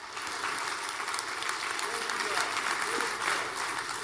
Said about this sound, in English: Would you give the Lord a great hand clap for that? Amen.